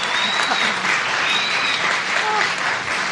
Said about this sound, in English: And let's get a round of applause. Round of applause for Maureen Johnson.